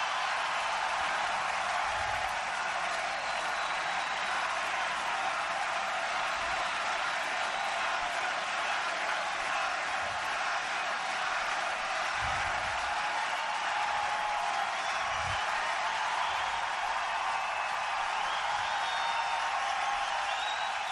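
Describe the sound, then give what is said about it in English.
A large crowd at Augusta National Golf Club roars and applauds as Tiger Woods wins his fifth green jacket, a dense, steady wash of clapping and cheering that holds at an even, loud level for the whole stretch, with no speech over it. “Crowd at Augusta thought so, too.”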